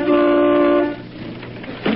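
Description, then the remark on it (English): A car horn, tooted outside Bing Crosby's house, gives one loud, steady honk in C sharp of nearly a second, then cuts off, leaving a low rumbling background with a brief noisy burst near the end. “Hey, who's that honking in C sharp?”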